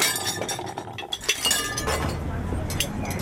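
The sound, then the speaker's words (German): Coffee cups clink against each other several times in quick, irregular taps at a picnic, fairly loud over a steady background rumble of street noise with faint murmuring voices. “Also ich habe so ein bisschen Kaffeetassen gegeneinander und Straßengeräusche und so weiter”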